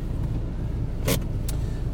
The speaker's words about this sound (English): That's off. Turn that off. Turn the engine off.